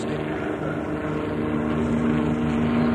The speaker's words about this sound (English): Army helicopters coming in low.